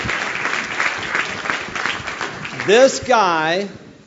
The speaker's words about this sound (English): Give him a big hand clap.